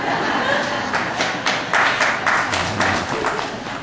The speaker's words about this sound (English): I didn't think I'd get applause on them.